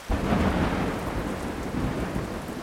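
A thunderstorm from a cumulonimbus cloud roars, a deep rumble of thunder rolling under steady, heavy rain that hisses continuously throughout, with no voices.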